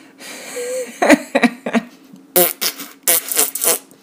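A woman farts: a few short, sputtering low bursts followed by longer, breathy, hissing blasts, fairly loud with brief pauses between them and no talking.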